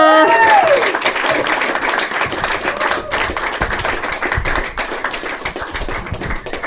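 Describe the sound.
A crowd applauds steadily, dense clapping filling the space for several seconds at a loud, even level, with a brief voice-like tone at the start.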